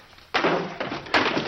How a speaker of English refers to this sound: He knocks a chair off a table.